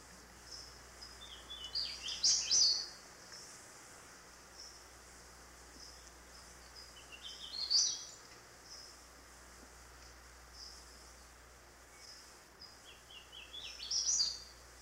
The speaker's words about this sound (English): In heavy, moist forests of the northern part of the state, one of our most beautiful warblers is the hooded warbler.